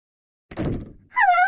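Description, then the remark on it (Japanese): A front door is shut on a visitor with a single solid thunk that rings briefly and dies away, followed right after by the visitor's high-pitched voice cutting in. “ドアを閉めないでください。”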